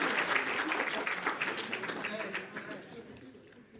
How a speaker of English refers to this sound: Wow! This man deserves a round of applause. Absolutely.